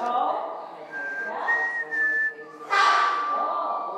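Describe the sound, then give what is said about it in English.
A person whistles the Mockingjay tune from The Hunger Games, a short melody of a few clear, sustained notes that step between pitches, fairly loud over a soft hiss of room noise. “Oh, give him the whistle.”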